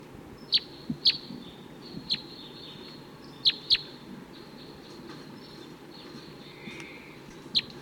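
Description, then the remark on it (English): Wild male birds call from nearby treetops with sharp, high chirps, about eight of them at irregular intervals, over a steady outdoor background hiss, with no one speaking. “So it sounds like those wild males took off. They're still around, calling from the nearby treetops.”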